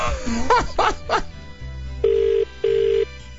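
A few brief yelp-like bursts, then an outgoing call's ringback tone: two short, steady, electronic buzzes in quick succession, like a double ring, clear and moderately loud over a low hum.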